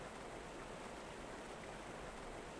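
A steady, continuous rush of clear, clean flowing river water, soft and even throughout with no pauses, heard on its own without any voices.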